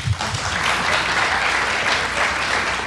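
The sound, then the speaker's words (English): An audience claps steadily for about three seconds, a dense, even wash of applause that stays loud throughout without any voices rising above it. “By applause, we're the Catholics tonight.”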